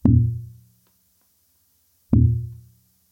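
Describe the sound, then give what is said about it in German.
Two deep, booming thumps about two seconds apart, tapped out on a drum or tabletop to demonstrate a very slow heart pulse, each one ringing out briefly before silence. “Dann ein sehr langsamer Puls.”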